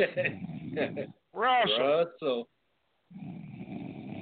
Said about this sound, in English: He's asleep. I hear snoring. You guys hear snoring? he sound asleep.